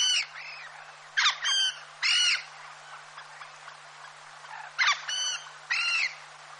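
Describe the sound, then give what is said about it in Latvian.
Harsh, nasal croaking calls of willow ptarmigan come in short bursts of two or three, with pauses between, fairly loud over a faint background hum. No one speaks. “Vasaras sezonā baltirbes ir rudi brūni raibas.”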